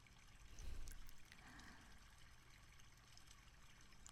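small stream trickling

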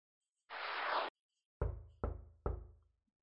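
knocking on a door

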